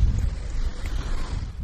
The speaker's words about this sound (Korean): 바람 소리와 섞여 있는 파도 소리. 아우터뱅크스라는 바닷가에서 들려드리는 파도 소리입니다.